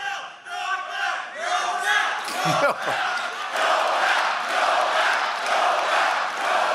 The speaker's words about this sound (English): If there is any one thing I never would have predicted in a Donald Trump presidency, it's a crowd of his supporters chanting Nobel. That's like going to a monster truck rally and chanting Pulitzer.